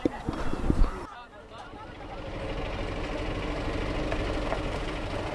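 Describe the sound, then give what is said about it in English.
A bus carrying dozens of migrants rolls up at the gate of a migrant camp in Hungary. Its engine settles into a steady, low idling rumble that continues throughout, with a burst of outdoor noise at the start and faint voices in the background. “At the gate, a bus pulls up with dozens more migrants.”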